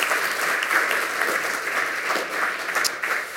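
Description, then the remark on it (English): Sustained audience applause at the Congress after a remote lightning talk, a dense steady patter of many hands clapping at an even, fairly loud level throughout, with no voices standing out. “So one final smile and a wave, one final round of applause, and we will jump right.”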